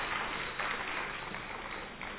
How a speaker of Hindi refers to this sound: आपके लिए हम करतल ध्वनि से अच्छी तरह से ताली बजाते हैं।